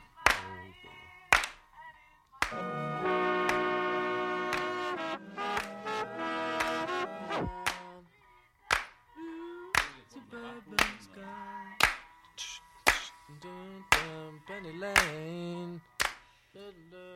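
Sharp, rhythmic handclaps land about once a second in a studio music recording (take 9), standing out loudly over sustained piano chords. The music thins out in the second half, where the claps stay prominent.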